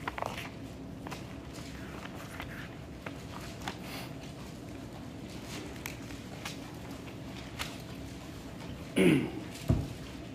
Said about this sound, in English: You really can hear the pages turn up here. Mm-hmm. I can't hear him from down there, I'll tell you that. I can barely hear myself turn the page sometimes.